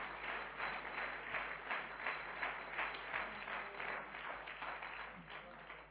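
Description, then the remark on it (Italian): A church audience applauds together in praise of God, a steady wash of many hands clapping that holds at an even level for several seconds, dense, with no voices rising above it. “Facciamo un applauso a Dio, al Signore, allo Spirito Santo.”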